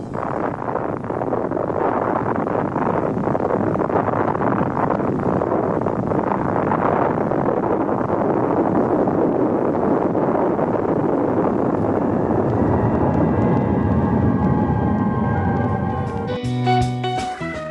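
Recording of the atomic bomb explosion over Nagasaki, dropped from a B-29 bomber: a loud, continuous rumbling roar that holds steady for about sixteen seconds before breaking off into a short burst of other tones.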